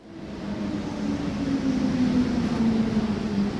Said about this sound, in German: Wir stehen im Bahnhof Hartbrücke. Die Züge sind voll, die Perrons verstopft.